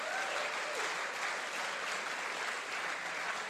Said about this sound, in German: Deswegen nochmal erstmal ein Applaus für unsere Neuesten, für die Pfälzer. Mal Applaus für die Pfälzer.